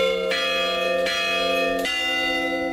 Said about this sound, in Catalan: una sintonia de campanes tocades des de Tortosa i Vinaròs ha obert aquest matí la tercera edició del Festival Eufònic